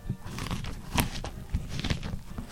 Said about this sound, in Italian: Prende una mela rossa e la sgranocchia lentamente.